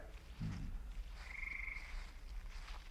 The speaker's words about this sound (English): Wow. What an eerie place. It's all frog marshes.